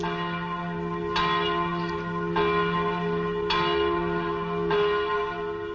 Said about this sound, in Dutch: Klokken luiden over Den Haag, de stad die zo lang de residentie was van koningin Wilhelmina en die nu afscheid neemt van haar stoffelijk hulsel.